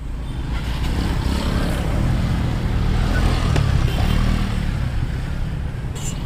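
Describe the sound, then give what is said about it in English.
Dense city traffic in Jakarta, Indonesia, with a constant low engine drone and motorbikes buzzing and revving over a steady roar of vehicles, loud and unbroken throughout, with no voices. “By far the fastest and cheapest way through the city is on motorbike.”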